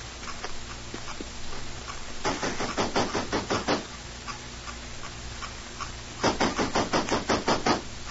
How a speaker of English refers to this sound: Come on, we'll knock at the side door of Tashar Shung's house.